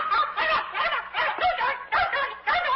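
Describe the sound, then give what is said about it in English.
A caged pet hen named Francis clucks in a quick run of short, choppy bursts, about eight in a row, fairly loud with no one talking over it, as someone pokes at her with a jelly bean. “What are you doing to that bird?”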